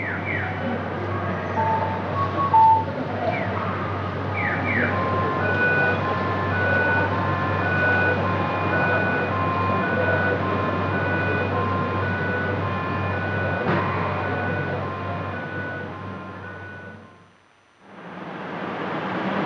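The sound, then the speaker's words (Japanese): A busy city street in the middle of the night, with people and cars passing: a steady rumble of traffic with electronic beeping tones ringing over it, then a brief drop near the end before the street noise resumes. “夜中にもかかわらず人々や車が行き交っています。”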